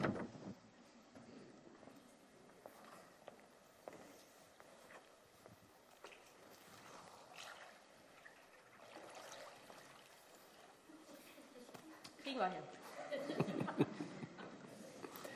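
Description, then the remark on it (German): Water sloshes and splashes as someone wades into a baptism pool during a church baptism, the movement growing louder toward the end, with quiet murmuring voices in the background. “Auf ins Wasser.”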